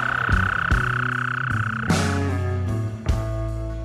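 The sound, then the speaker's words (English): A toad croaks in repeated pulses with a steady, buzzing tone running beneath, the calls loud and rhythmic over a few seconds, with no voices. “Let me get another look at that toad.”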